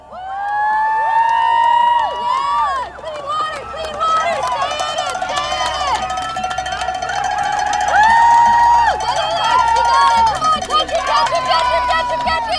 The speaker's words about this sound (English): At 7 p.m., the start gun fired. 108 boats charged forward through the water. Crowds cheered on the bank.